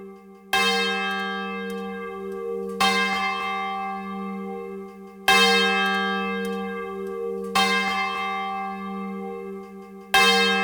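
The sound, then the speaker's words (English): A large swinging church bell rings a traditional call to worship in a steady swinging rhythm, each loud strike blooming into a long resonant hum that overlaps the next. Full and with no voices. “The unmatched realism of a swinging bell provides the community with a traditional call to worship.”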